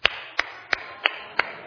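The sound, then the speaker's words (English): Five slow, evenly spaced hand claps ring out, each sharp and distinct with a brief pause between, a lone person's deliberate clap with no talking. “I applaud your courage.”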